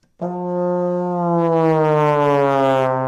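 A trombone blows one sustained, brassy tone that slides steadily downward in pitch for about three seconds as the player extends the slide while blowing into the instrument, loud and alone with no talking.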